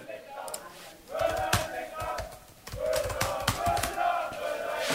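A crowd of counter-demonstrators on the street chants the slogan "Müller in den Knast" in loud, rhythmic phrases outdoors, with sharp claps or drum beats punctuating each line and a brief pause between the two chants.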